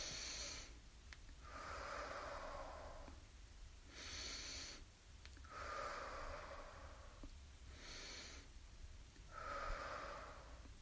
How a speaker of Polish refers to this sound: To teraz sobie też pooddychamy. Kwiatuszki oddychają. Wciągamy powietrze, wdychamy noskiem i wypuszczamy ustami.